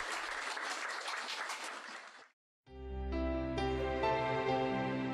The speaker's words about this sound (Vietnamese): Xin chúng ta hãy dùng tiếng vỗ tay để cảm ơn sư phụ của chúng ta đã từ bi giải đáp. Cảm ơn, cảm ơn.